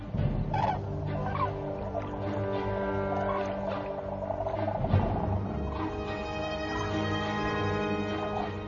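A flock of common cranes calls in alarm at the arrival of a white-tailed eagle, loud overlapping bugling and trumpeting cries that continue without pause throughout, with no voices present.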